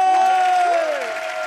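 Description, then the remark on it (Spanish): A crowd at a contest cheers and applauds for the contestant from Costa del Este in a loud, continuous roar, with shrill sustained shouts or whistles rising above the clapping throughout. “¡Una bulla para la de Costa del Este!”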